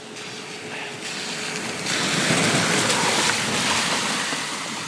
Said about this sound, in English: That particular one is emptying the road pretty much as I walk up. It's a 4x4 heading to a farm with bales on a trailer on the back.